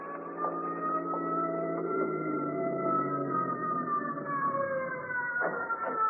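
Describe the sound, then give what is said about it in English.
An ambulance approaching a hospital emergency room door, on its way to Metropolitan Hospital, its siren wailing steadily, the long sustained tones slowly sliding in pitch, with a sharp downward sweep near the end; no one speaks. “As I heard it approach, a car pulled up to the door.”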